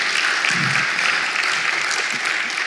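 Steady applause from an audience giving God a round of applause, a dense, continuous clatter of many hands clapping at an even loudness throughout, with no one speaking over it.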